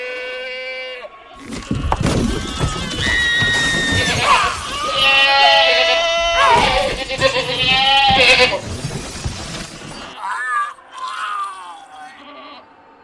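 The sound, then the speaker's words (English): An angry female goat bleats loudly and harshly in long, strained, wavering cries, several overlapping calls running together for about eight seconds before trailing off into a few shorter bleats. “Well, she is just a goat.”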